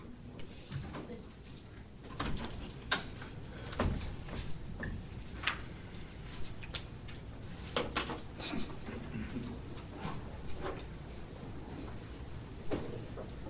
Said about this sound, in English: Doors.